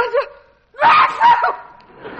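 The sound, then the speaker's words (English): A short voiced sound, a brief pause, then a loud, sudden sneeze caused by too much dust that bursts out in two harsh, breathy pulses before fading into softer vocal noise. “Why did you sneeze? Too much dust.”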